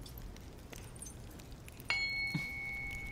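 A large tuning fork, taken from a wooden box, is struck once and rings with a clear, steady pure tone and faint higher overtones, sustaining evenly after a soft low tap, with no voices.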